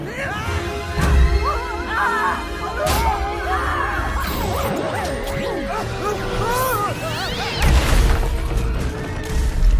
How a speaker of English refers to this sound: It spins around and crashes through the cubes.